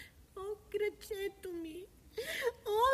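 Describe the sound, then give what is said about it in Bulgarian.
A young deer with an injured leg cries pitifully in a series of short, high, whimpering wails, fairly loud, rising and breaking between sobs; the cries sound like a voice imitating the injured animal. “Чухте ли? Някой жално плаче.”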